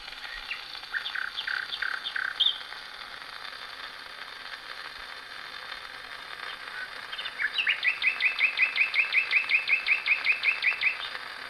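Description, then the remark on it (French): Birds singing at dawn, played from a gramophone record of dawn birdsong and cello: a few scattered chirps early on, a quiet pause, then a fast, even run of repeated high notes over a faint steady background hiss. “La suite, ça a été un disque d'enregistrement en fait, de chants d'oiseaux à l'aurore et de violoncelle.”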